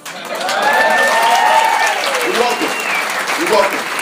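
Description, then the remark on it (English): An audience at a comedy show applauds in a steady, dense wash of clapping lasting about four seconds, with a few rising voices or whoops over it, after the comedian mentions 14 years in the United States Navy. “But to be honest with you, I don't tell you that for any applause.”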